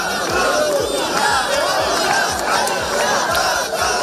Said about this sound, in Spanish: Pero en las calles de Barcelona, a cuenta de la mala gestión de las cercanías, se oyeron de nuevo gritos a favor de la independencia.